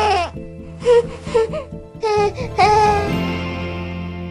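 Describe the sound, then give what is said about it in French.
A baby fusses with a "heh" discomfort cry, a series of short, breathy whimpering bursts building into a longer wail, fairly loud, with no one talking. “This is the word he, and you're listening for the H part of the sound.”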